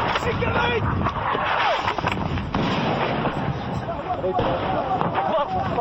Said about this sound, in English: Three explosions, 50 yards away. What you're missing in that audio version of Richard Engel's report from Benghazi is the video image of him diving for cover as artillery fire narrowly misses him.